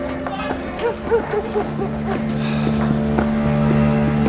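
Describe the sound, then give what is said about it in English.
Horse hooves clip-clop in a quick, uneven rhythm for a couple of seconds, then fade into a steady low hum that carries on to the end. The horse is the commander's horse. “Your horse, Commander.”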